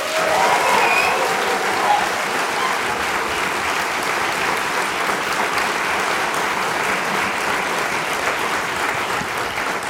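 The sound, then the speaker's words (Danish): Sustained applause from a lively audience at the University of Copenhagen Amager, Njalsgade 120, Copenhagen, a dense, even wash of many hands clapping at steady loudness for the full ten seconds, with no voices standing out. “Og vi, det er ud over undertegnet og Hjernekassens øvrige personale, et veloplagt publikum, det var dem, I hørte lige før.”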